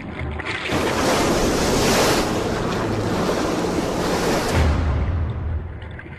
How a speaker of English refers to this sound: but the general feeling is one of the waves crashing and the sound booming and seagulls circling, and it has a certain horrific feeling to it.